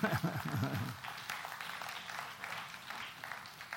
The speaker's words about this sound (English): Yeah, go ahead. That's a clap.